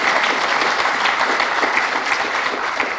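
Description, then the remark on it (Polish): Steady, sustained applause from a crowd thanking the event's reception and registration staff, a dense wash of many overlapping claps held at an even loudness throughout, with no voices standing out. “Oklaski proszę.”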